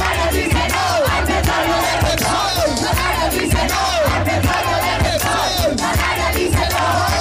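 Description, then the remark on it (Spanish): A large protest crowd shouts the slogan 'Canarias dice no al petróleo de Repsol' (the Canaries say no to Repsol's oil) in loud, rhythmic bursts. Many voices chant in unison with a steady repeated cadence over a dense roar of overlapping yells. “Bueno, señores, quiero que griten conmigo.”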